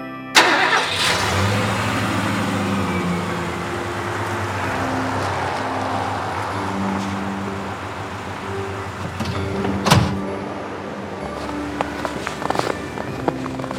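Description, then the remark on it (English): A truck engine cranks and starts with a sharp burst, then settles into a steady rumble as the truck is driven to a snow plow, with a couple of clunks and rattles near the end. “We'll drive the truck to the plow. Let's get in. seatbelts on, and away we go.”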